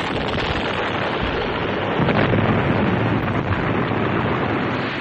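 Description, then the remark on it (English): A large fiery explosion roars loudly and continuously, a dense, rumbling blast of noise that swells slightly midway and keeps billowing for several seconds, with no voices. “He was aware only of the fire, reddish-yellow, roiling out from under the beast.”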